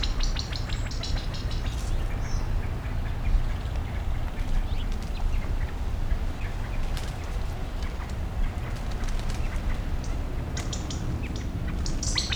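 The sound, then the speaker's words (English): A chorus of high, thin peeping calls from about 10 chicks moving slowly away about 10 meters off by a stream, with occasional duck-like quacks, scattered irregularly over a steady low rush of flowing stream water. No one speaks. “There are a number of chicks, perhaps 10. Can't see the adults, though.”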